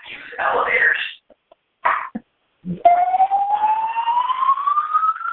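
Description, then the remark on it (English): A building fire alarm starts partway through, a loud, continuous electronic tone that slowly rises in pitch. Just before it, someone coughs or clears their throat a few times. “oh good, they turned off the noise, but not the alarm, not the light.”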